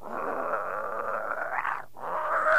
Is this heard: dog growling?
yes